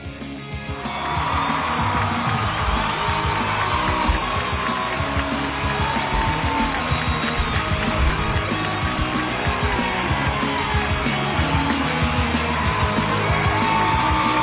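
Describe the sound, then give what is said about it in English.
Audience applause at the live show The Net Live, at the Redondo Beach home court in California, starts after a brief quiet moment and swells into a steady, dense wash of clapping that holds at an even level to the end, with no voices heard. “Love the applause. Never gets old.”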